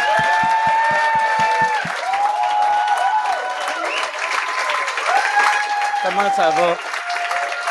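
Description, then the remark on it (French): An audience applauds the comedians Guillaume Wagner and Philippe Signa as they are introduced on the show, steadily and loudly for the whole stretch, a dense wash of clapping with whoops and raised voices cheering on top. “Mesdames et messieurs, une bonne main d'applaudissements.”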